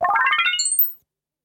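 A short signal chime used as a cue in an Italian listening exercise before true/false answers: a quick run of bright tones climbing rapidly in pitch over about a second, ending on a high sparkling note, clear and alone with no voices.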